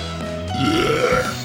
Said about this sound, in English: I got a burp. Here we go.